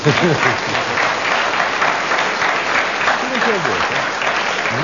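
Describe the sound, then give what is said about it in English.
Steady, sustained audience applause for panellist Derek Nimmo after he spoke for 55 seconds, with dense clapping throughout, fairly loud and even, with a few voices rising briefly through the noise. “Aren't you going to clap?”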